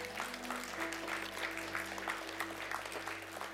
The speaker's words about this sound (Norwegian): Jeg vet ikke om tilhørerne hører vår applaus, men vi kan prøve oss på en sterk applaus. Ja.